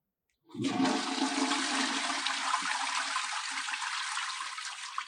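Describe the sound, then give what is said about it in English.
A toilet flushes, a sudden loud rush of water that starts abruptly and keeps churning steadily for several seconds with no voices. “Got the flush. It is time for the tech flush tip of the day.”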